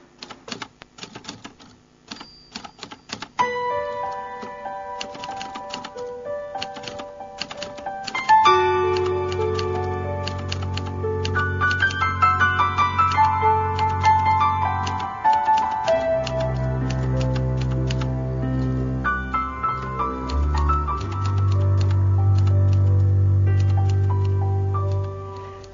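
The instrumental intro of a 1988 Greek pop song opens with sparse, typewriter-like clicking and tinkling melody, then a steady bass and fuller band swell in, playing loudly and evenly with no voices.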